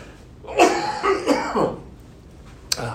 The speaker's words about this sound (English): Apologize for the coughing there.